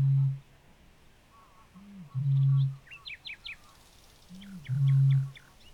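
A Eurasian bittern booms three times in reeds, deep resonant hoots each led by a short intake grunt, spaced about two seconds apart, while small birds twitter faintly in the background.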